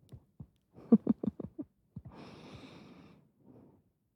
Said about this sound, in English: Come here. Breathing you in.